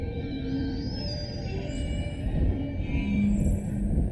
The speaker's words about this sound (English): The music you'll hear throughout this episode comes from a radio art piece